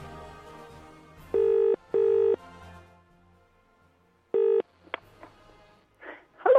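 Telephone dialing tones as a show places a phone call to a guest: two loud, steady beeps in quick succession, then a pause and a third shorter beep, followed by a few faint clicks and murmurs.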